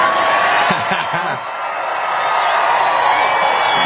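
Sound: large rally crowd cheering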